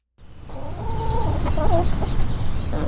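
Four chickens cluck and murmur over a steady low rustle as they eat dried mealworms shaken from a red plastic cup into the run of their backyard coop in St. Louis; their short, warbling calls overlap in an irregular chatter with no voices present.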